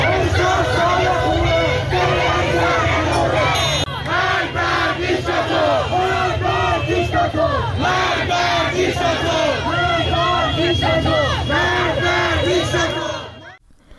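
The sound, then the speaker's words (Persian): A large crowd of protesters in Tehran, Iran, shouting and chanting together, a dense, loud roar of many voices with rising and falling cries that continues steadily before cutting off abruptly at the end. “میتونیم که صدای مردم تهران رو بشنویم.”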